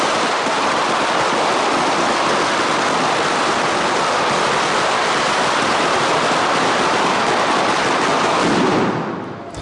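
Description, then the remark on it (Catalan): A dense, continuous barrage of firecrackers, the opening tronada welcoming the 2013 festes majors of Móra d'Ebre, crackles without pause, a loud roaring wall of rapid pops that holds steady for several seconds before tapering off at the end. “Així sonava la tronada inicial que donava la benvinguda a les festes majors 2013 de Móra d'Ebre.”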